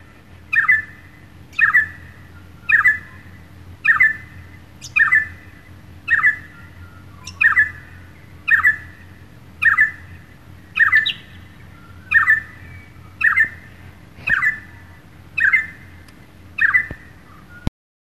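A little friarbird calls over and over, about fifteen loud, harsh, squawky notes spaced in a steady rhythm, close by, with a low hum in the background and no talking.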